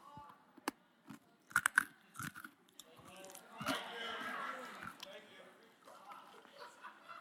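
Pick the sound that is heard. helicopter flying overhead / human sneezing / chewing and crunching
chewing and crunching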